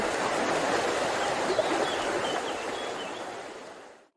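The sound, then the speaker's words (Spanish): Rushing water of the flooded Genil river in Granada roars in a steady, dense wash with no let-up, full, carrying branches and logs down from the sierra, then cuts off abruptly near the end. “Una riada del Genil, el emblemático río de Granada, arrastró ramajes y troncos de la sierra.”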